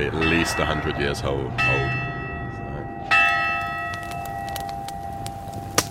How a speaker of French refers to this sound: Avant de faire ça, quelqu'un a récupéré la cloche, l'a rapportée ici, je ne sais pas trop comment, et voilà donc l'histoire de cette cloche qui a plus de 100 ans.